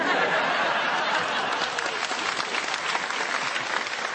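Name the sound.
audience clapping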